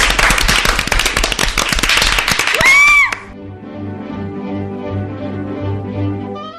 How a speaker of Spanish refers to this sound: ¡Ey, los aplausos!